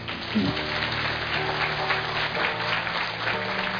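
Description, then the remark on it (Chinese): An audience claps for the photographer in a steady, dense patter of many hands that holds at an even loudness for a few seconds, with a low sustained hum running underneath. “来举个手，让大家给他鼓掌一下。”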